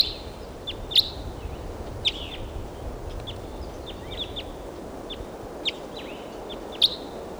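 wild bird calls

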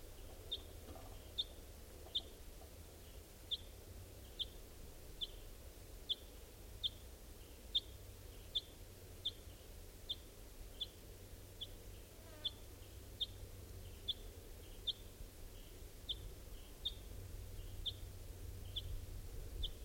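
crossbill call

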